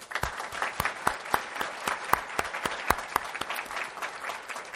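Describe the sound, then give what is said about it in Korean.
A church audience applauds in thanks and praise to the Triune God on the last Sunday of the year, many hands clapping in a dense, even wash with sharper individual claps standing out. It holds at a fairly constant level throughout, with no talking over it. “생각하면 할수록 우리들은 형편없고 허물투성이인데 그런 우리들을 내치지 아니하시고 함께해 주시고 인도해 주신 우리 삼위일체 하나님께 먼저 감사와 찬송의 박수를 올려드릴까요?”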